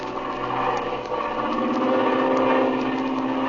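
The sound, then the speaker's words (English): An airplane engine drones steadily as the plane cruises over a mesa, a continuous, fairly loud mechanical hum with a slight throbbing pulse and no voices over it. “And now, we find them cruising over the mesa.”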